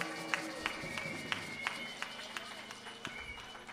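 Audience applause for a band, who had spontaneously started up again, in a steady rhythmic beat, sharp claps landing about three times a second over a low crowd murmur, fairly quiet overall.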